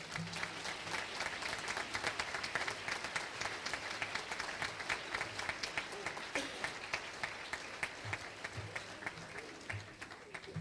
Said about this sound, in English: Give him a hand clap.